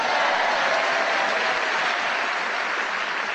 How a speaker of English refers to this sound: Extra loud laughter and applause was because Sheila was illustrating with hands and every part of her anatomy efforts to going.